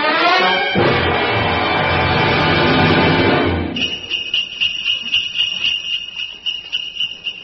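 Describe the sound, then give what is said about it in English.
A loud, sustained musical chord gives way to sleigh bells jingling at Christmas time in a steady, rhythmic shake, bright and high-pitched, continuing alone to the end. “Oh, Alan, hear the sleigh bells.”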